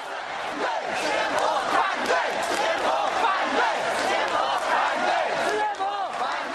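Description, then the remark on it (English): A large crowd of thousands shouting and chanting together in a dense, continuous roar, many voices overlapping at steady loudness with rising and falling cries, during a January daytime protest walk into People's Square in central Shanghai against extending the high-speed maglev train. “Let's listen to just a little bit of what went on to thousands of people in the center of Shanghai in broad daylight in January.”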